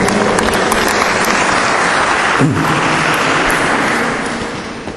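Sustained applause from a church audience for a woman who has just sung, a dense wash of many hands clapping at steady loudness that tapers off slightly toward the end, with no voices standing out.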